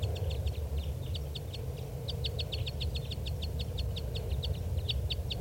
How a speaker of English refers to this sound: Okay, the playbacks are going on right now behind the tape recorder at low volume. And these are the playbacks of a different bird.